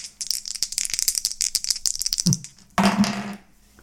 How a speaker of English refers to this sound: I have a player in my group right now that just loves rolling a D100. So it's like... roll. It goes on like 5 minutes. Oh, yeah, I got one of those. Before it finally stops, it's like, oh my god. I think it does pick up the dice rolls.